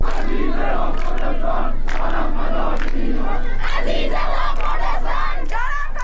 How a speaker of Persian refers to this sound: در جنت‌آباد در شمال غرب و نارمک در شرق تهران شهروندان به سر دادن شعارهای شبانه از داخل خانه ها و مجتمع‌های مسکونی خود پرداختند.